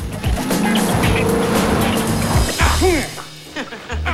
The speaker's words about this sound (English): Mario bounces up onto a pavement and watches as the BMW flies by.